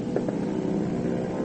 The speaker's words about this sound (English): Here comes the plane.